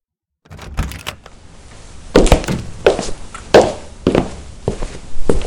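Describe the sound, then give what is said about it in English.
A staged run of footsteps, about half a dozen thudding, scuffing steps at an uneven walking pace, fairly loud with no talking over them. “Talking about, can we have like fake footsteps, like the soundstage?”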